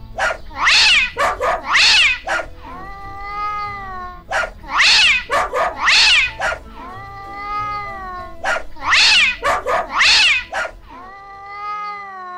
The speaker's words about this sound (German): Also, da waren ja der Hund Synkopus und der Kater Tritonus. Die haben irgendwie gebellt und gefaucht und in einem ganz bestimmten Rhythmus.